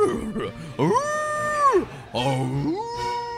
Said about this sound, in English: And first you hear one wolf howling to the south, and then you hear two more wolves howling from the north and northeast, and they feel like they're communicating and circling in and getting closer.